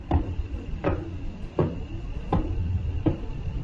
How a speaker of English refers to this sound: The most interesting among them is the star which is named as Pulsar by the scientists, mentioned as the star of Tariq in the Quran, and sworn by. Yes, this star, which is called Tariq, sounds just like the sound of the door being knocked by someone.